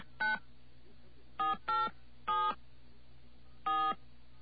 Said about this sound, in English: All right, let's get ourselves a dial tone here. Okay, there's our dial tone. We're going to dial a number, an 800 number.